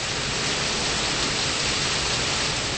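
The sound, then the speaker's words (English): Rushing water from an indoor waterfall beneath a large geodesic dome at the Missouri Botanical Garden in St. Louis, set amid greenery in humid 72-degree air, makes a steady, dense hiss that stays at an even loudness throughout, with no voices or other sounds over it. “A rushing waterfall is at the center of a world of greenery.”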